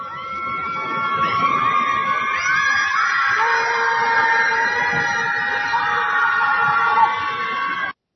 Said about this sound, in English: They're angry at Trump. So they're going to scream at the lake.